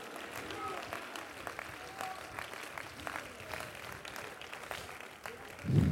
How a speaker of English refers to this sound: Clap your hands and say, God, use me.